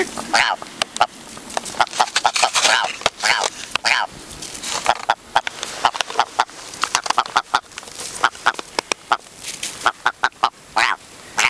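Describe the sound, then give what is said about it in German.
Someone imitates a clucking chicken, with a rapid run of sharp, repeated clucks and squawks that keep going for several seconds, loud and lively, with no other sounds around them. “du bist ein richtiger Huhn-Imitator.”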